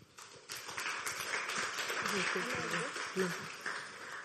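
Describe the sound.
An audience breaks into sustained applause, many hands clapping in a dense, steady patter that swells after a brief start, with a few voices murmuring and calling out beneath it.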